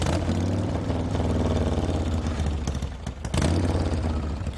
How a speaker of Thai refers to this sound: เสียงเครื่องยนต์ของ Harley Davidson ดังกระหึ่มตามท้องถนนที่มุ่งหน้าสู่จัตุรัสเซนต์ปีเตอร์นะครับและทำให้ถนนรอบๆสำนักวาติกันกลายเป็นที่จอดรถขนาดใหญ่ที่คลาคล่ำไปด้วยมอเตอร์ไซค์คันใหญ่ๆ